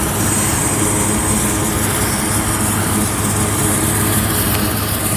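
vehicle, helicopters flying overhead

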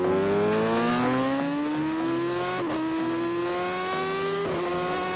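vehicle, motorcycle engine revving

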